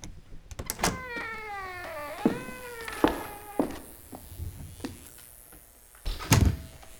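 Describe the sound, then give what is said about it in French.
The door of a surgeon's practice in a large apartment on rue Marbeuf in Paris creaks open, its hinge giving a long, wavering squeal, followed by several sharp clunks and knocks of the door and latch; no one speaks. “Et justement, vous m'avez ouvert la porte de votre cabinet.”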